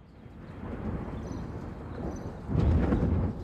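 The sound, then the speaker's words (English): A deep, rolling rumble of thunder builds steadily, then swells into a louder crash near the end before easing slightly. No voices are present. “Did you hear that noise? Yes, I did. I think it was thunder.”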